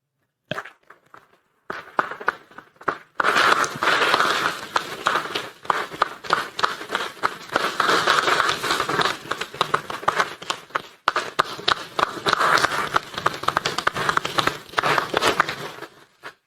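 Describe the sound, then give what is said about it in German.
Audience applause: a few scattered claps, then a dense, steady wash of clapping that briefly dips partway through and swells again before cutting off. No one speaks. “Nochmals herzlichen Dank und es war ein sehr verdienter Applaus.”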